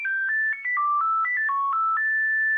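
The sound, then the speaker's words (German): A monophonic mobile phone ringtone from 1996 plays a quick melody of steady electronic beeps at changing pitches, ending on a long held tone. It is clear, with no voices. “Wir machen jetzt eine ganz kleine Zeitreise ins Jahr 1996, als unsere Telefonanrufe noch so klangen.”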